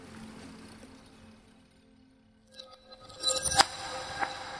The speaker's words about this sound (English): She listens to the smashing of an old china mug and the hissing leap of the coal fire.